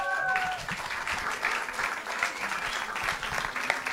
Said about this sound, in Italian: Un grande applauso a Ulisse Salucci.